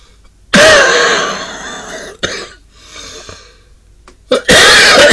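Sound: coughing fit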